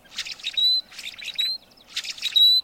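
Three repeated blackbird calls, each a burst of raspy, chattering notes ending in a clear, rising whistle, fairly loud with short pauses between them.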